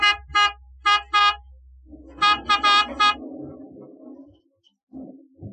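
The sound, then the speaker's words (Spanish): A luxurious black car stopped beside a large steel gate in a Chinatown neighborhood honks its horn in quick pairs, then a tighter burst of three, loud over a low idling engine, followed by a rumbling mechanical noise that fades out. “Después de sonar el claxon, la gran puerta se abre dando paso al lujoso auto negro.”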